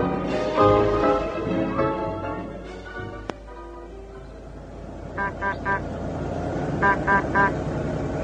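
A car rumbles up and slows, then its horn gives two quick bursts of three short, bright toots over the idling engine. Nobody speaks.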